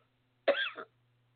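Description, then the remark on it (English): A single short, harsh cough burst followed by a brief rasping tail, loud against an otherwise silent background with a faint low hum, during a deliverance prayer where people are told to cough it out. “Cough it out.”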